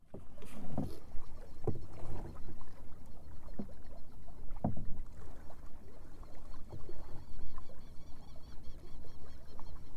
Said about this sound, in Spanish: Se escuchan todas las aves saludando al sol mientras la canoa surca por la laguna con un impulso mínimo y delicado